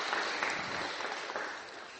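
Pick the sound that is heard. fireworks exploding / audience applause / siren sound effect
audience applause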